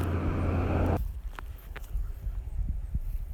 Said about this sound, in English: Yeah, I got interrupted by traffic there.